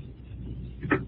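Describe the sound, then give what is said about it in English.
A door shuts with a solid thud, followed moments later by a short, sharp click like a lock turning, over a low, steady background rumble. “Oh, I hear you close and lock the door.”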